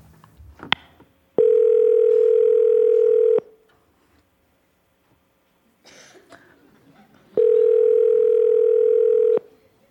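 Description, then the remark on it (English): Two steady electronic rings of an outgoing phone call to the caller's mother, each lasting about two seconds with a long pause between, loud, with brief handling noise and a faint laugh in the gap. “Answer the phone.”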